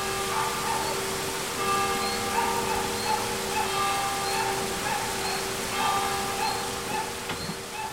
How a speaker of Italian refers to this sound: Il paese sorge a 1000 metri d'altezza su uno sperone di roccia ed è dominato dalla chiesa di San Giovanni Battista. Un canale la traversa e il rumore delle campane si mescola a quello dell'acqua.